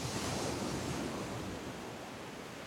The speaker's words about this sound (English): and off we set in his battered old Curragh boat. It was a rocky ride on the wild Atlantic waves.